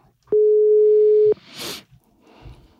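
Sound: phone call ringing tone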